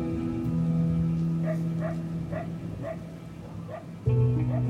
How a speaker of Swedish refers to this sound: Och den här gången har man med sig ett par likhundar. De nosar sig fram genom åkrar och skogspartier och efter ett tag, när en av hundarna närmar sig en vattensamling bredvid vägen, börjar den skälla.